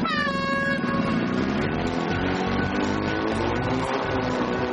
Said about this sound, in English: They'll be against the clock, but this round will really test their manoeuvrability. Hot Property, on the sound of the hooter, lights, camera, traction!